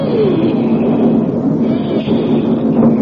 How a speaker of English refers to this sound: as we stood there, a train came out of the darkness, the first train that I ever rode on in my life. And incidentally, the most dramatic train I was ever to ride on, ever, came sneaking out of the darkness. You could hear the wheels creaking.